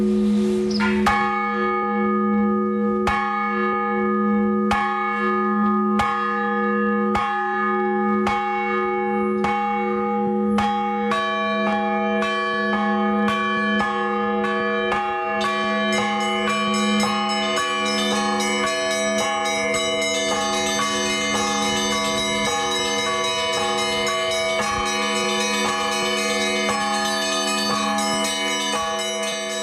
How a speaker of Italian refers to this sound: Ad evocare un paesaggio sonoro, le campane dissonanti della chiesa russa ortodossa evocano anche un paesaggio culturale, uno stile di vita e anche un modello di interazione sociale.